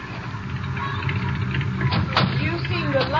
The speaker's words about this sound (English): There's a car coming. Could be them.